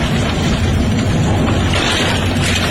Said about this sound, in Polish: Na nagraniach widać Olsztyn w śniegu i słychać grzmoty.